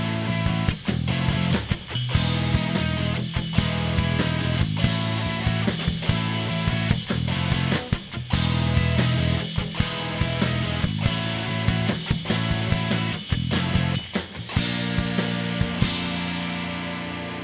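A live band plays a loud, full song with steady drum hits driving the rhythm under sustained guitars and bass, no talking, the sound thinning out slightly in the final second.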